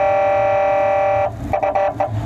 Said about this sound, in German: Also er benutzt meistens hier diese Hupe, weil man die am einfachsten bedienen kann. Man kann sie so lange anlassen, wie man will, und dann auch wieder ausmachen.